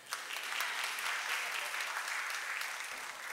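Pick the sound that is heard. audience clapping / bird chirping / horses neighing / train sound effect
audience clapping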